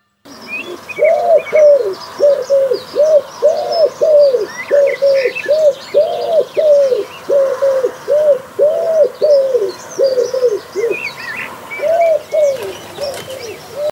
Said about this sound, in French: Eh oui, tu avais deviné qu'il s'agissait du pigeon ramier dont je viens de te parler.